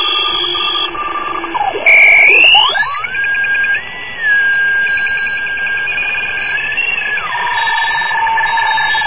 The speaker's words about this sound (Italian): Ecco, questa è una telescrivente, è una macchina che trasmette caratteri ASCII in un sistema che si chiama RTTY, all'incirca 75 baud.